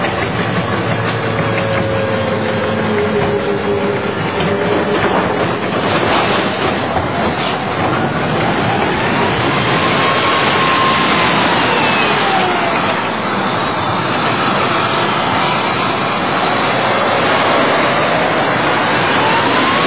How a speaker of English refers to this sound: We filmed these GIs after they caught a group of Iraqis stealing wood. We try to stop them from looting. They don't understand, so we'll take their car and we'll crush it. United States Army, tankers, whoa.